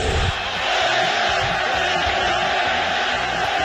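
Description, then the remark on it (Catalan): A large stadium crowd at El Molinón, during a World Cup match, roars and chants "Fuera, fuera" in unison in protest, a dense wall of loud voices with rhythmic shouted syllables pulsing steadily throughout, sounding angry and insistent. “El públic del Molinón, estadi que ja va néixer el crit a Sigan al Madrid, per tant gent que en sap, va reaccionar d'aquesta manera.”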